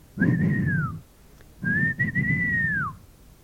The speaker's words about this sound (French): Le meneur siffle.